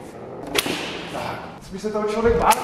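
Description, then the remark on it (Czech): A small whip lashes a spinning top to keep it spinning, in two sharp, snapping cracks, one early and one near the end, with a person's voice murmuring between them. It is a traditional game shown at an exhibition in the South Bohemian Museum. “Teď se mi roztočila do toho základního pohybu a teďka ji musím udržovat v tomto činí, takže začnu práskat bičíkem teďka.”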